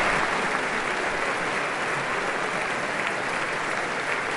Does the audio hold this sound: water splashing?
no